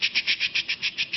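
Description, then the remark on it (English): Theta rhythm neural activity from a moving animal, played as sound: a steady, rapid pulsing of hissy, high-pitched bursts, roughly eight even beats per second, with no voices over it. “So an animal moving, you get theta.”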